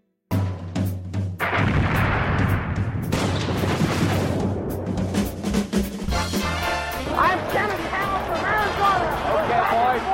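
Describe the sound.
Repeated booms and sharp cracks of fireworks exploding in all directions after midnight in London burst in quick irregular succession, loud, over a continuous background of crowd noise and cheering voices as people dance on the rooftops.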